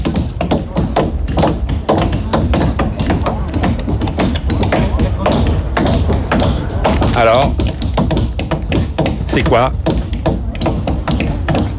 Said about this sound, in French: Ouais, des marteaux, des pioches, ouais. Et des marteaux, des pioches qui tapent contre quoi? Contre un mur. Et oui, vous avez deviné, il s'agit du mur de Berlin. Et c'était en 1989.